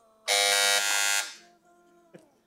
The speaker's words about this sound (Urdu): پھر بزر دونوں نے بجا دی ہے، سوال کمپلیٹ نہیں سنا ہے.